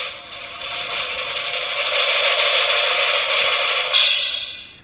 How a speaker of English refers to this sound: This one is Drum Roll.